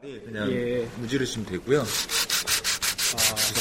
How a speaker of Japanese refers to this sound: 切り抜いたクジラを紙やすりで磨いて紐を通すと